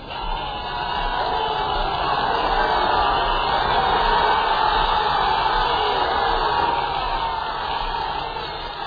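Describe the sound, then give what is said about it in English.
A dense, roaring crowd of Parisians cheers and shouts continuously during a street procession, a steady wall of excited voices with occasional whoops rising above the din, loud throughout with no pauses. “Here they are, they're just mad with joy. Just listen to these crowds.”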